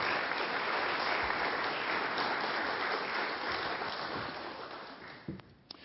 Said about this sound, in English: But she'll give her a round of applause to encourage her.